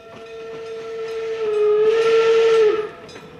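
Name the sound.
steam train whistle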